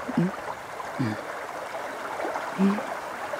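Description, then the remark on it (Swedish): A stream babbles steadily beside where the speakers sit, outside Jokkmokk. Its continuous watery rush is broken by a few low gurgles bubbling up at intervals. “Vi lyssnar till pålet lite granna från vattendraget vi sitter intill.”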